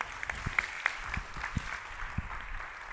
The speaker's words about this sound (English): And so why don't you give him a round of applause as he comes this morning?